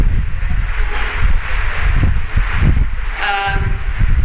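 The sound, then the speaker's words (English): Steady papery rustling and shuffling as paper handouts are passed back along the rows, at least one per row, with soft thumps of handling and a brief squeaky tone near the end; faint murmuring voices sit underneath. “Pass them back, at least one paper for each row should be there.”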